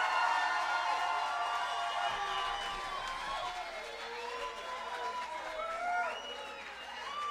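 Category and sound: crowd, audience applause and cheering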